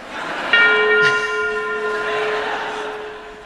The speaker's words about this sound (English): I insisted that the bell be replaced by Big Ben. So that you would feel comfortable.